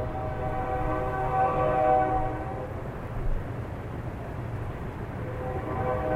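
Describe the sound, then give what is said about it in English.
A train rumbles past the Maltese Cross Cabin in the Badlands with a steady low roar and clattering, its horn sounding in sustained tones that swell and fade. No voices, just the continuous rail noise. “It's a sound that Theodore Roosevelt would have known quite well when he stepped off the train on September 9th, 1883.”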